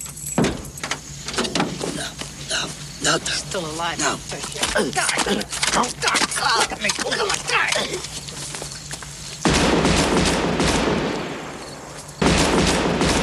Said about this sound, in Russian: Выстрелы уже излишние, Джимми просто не может отказать себе в этом удовольствии